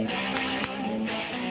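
A loud, dense stretch of hard rock plays continuously, with driving distorted guitars and steady punchy drum hits filling the whole moment, no voices over it.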